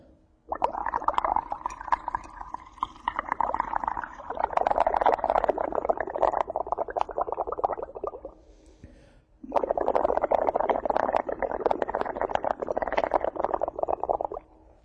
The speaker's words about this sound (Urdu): تو اس پانی میں میں نے تھوڑا سا صابن گھولا ہے اور اب میں اس میں پھونک کر اس میں بلبلے بناؤں گا.